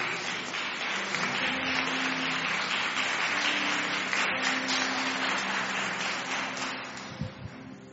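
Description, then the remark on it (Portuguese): An audience applauds loudly for the name of Jesus after a Bible reading, a dense, steady wash of many hands clapping for about seven seconds, with faint tonal voices or cheers underneath, tapering off near the end. “Você pode dar um beijo na sua Bíblia e aplaudir bem forte o nome de Jesus.”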